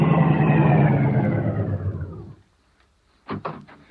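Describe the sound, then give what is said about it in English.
A loud car engine rumbles and roars as the car approaches, then winds down and cuts out, followed by a moment of quiet and a couple of short clunks. “Car coming.”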